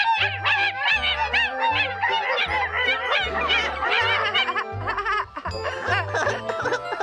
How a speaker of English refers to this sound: Yeah, look at those little puppies.